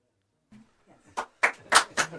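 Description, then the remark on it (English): Four sharp, evenly spaced claps ring out together as if from a small group clapping in unison, following a brief murmur of voice at the start. “We actually have enough people to clap down here tonight.”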